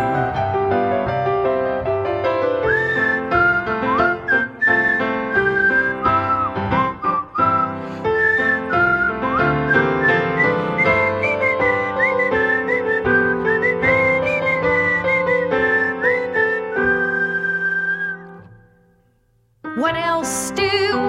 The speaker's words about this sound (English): Some who ain't doing well whistle to beat all hell. Whistling has bucked up quite a few.